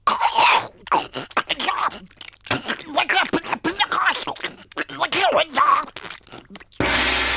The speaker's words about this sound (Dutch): Onze geblinddoekte medewerker zal nu een hap nemen van de boterham met het bekende merk. Oh. Daar gaat hij.